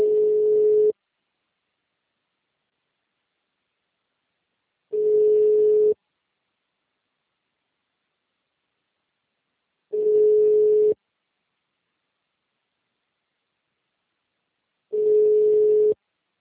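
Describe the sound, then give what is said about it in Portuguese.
A telephone busy signal sounds four times: a steady mid-pitched tone lasting about a second, then roughly four seconds of silence before the next. There is no voice. “Todas as linhas estão ocupadas no momento. Por favor, tente mais tarde.”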